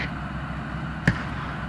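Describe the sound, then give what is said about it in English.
A single sharp rifle shot cracks out as a brief, fairly soft report over a steady background hiss, with no talking. “More gunshots. That's his rifle!”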